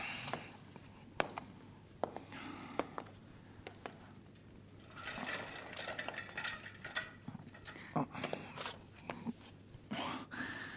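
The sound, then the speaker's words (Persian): An unoiled chair creaks and clicks irregularly, with scattered sharp ticks and a denser stretch of rustling creaks midway, moderately loud over a low steady hum, with no speech. “درباره جیرجیر این صندلی هم نظریه دارم؟ معلومه، نمیذاری حتی یه قطره روغن بهش بزنم.”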